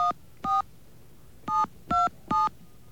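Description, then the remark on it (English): Five crisp telephone keypad tones are dialed again after too many ones were pressed, each a short steady two-pitch beep, spaced unevenly with a pause after the first two. No voices, just the beeps over faint background hiss. “I might have hit too many ones. So we're going to try it again.”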